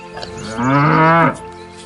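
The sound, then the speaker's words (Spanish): A single cow moos once, a loud, drawn-out low call lasting under a second, with no talking over it. “Imagina cómo podrías interactuar con la vaca o el toro, permitiendo que te llenes de su sabiduría.”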